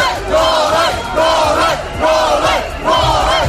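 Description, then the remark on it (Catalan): A crowd of supporters of Serbian tennis player Novak Djokovic shouts in unison in the street in Belgrade, Serbia, after his expulsion from Australia: loud rhythmic chants rising and falling in four repeated bursts with a dense roar of many voices underneath. “La gente se ha echado a la calle para mostrar su apoyo al tenista.”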